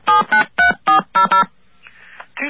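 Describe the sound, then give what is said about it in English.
A quick series of six touch-tone dialing beeps as a phone number is dialed on the radio show Off the Hook, each a short steady electronic tone, followed by a faint, hissy stretch of line noise. “Now, let's give you the phone number, and you read it back to us.”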